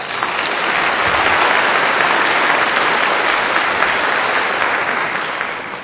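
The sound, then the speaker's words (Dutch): An audience at an Easter church service claps steadily for several seconds for the people who set up fresh flowers, a dense, even wash of many hands at a fairly loud, constant level with no voices breaking through. “En zullen we even voor de mensen die dat gedaan hebben, als een heleboel werk, zullen we die even een applaus geven.”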